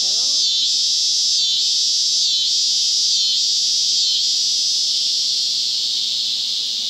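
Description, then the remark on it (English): An annual cicada buzzes loudly and continuously in a harsh, high-pitched drone with a slight regular pulsing, easing off a little toward the end. No one speaks. “This is an annual cicada.”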